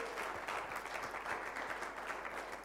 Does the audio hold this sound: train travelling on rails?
no